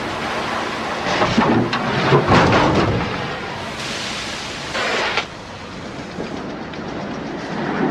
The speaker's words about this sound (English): Well, I'll tell you, it sure feels good playing the junk man cutting these cars apart. Like the old days. Gotta try it sometimes. Relieves the tension.